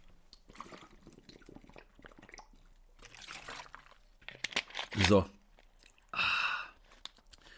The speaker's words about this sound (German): So, kleine Trinkpause, Prost. Wasser habe ich gehört, ist immer gut. Und mein Hals wird gerade ein bisschen trocken hier.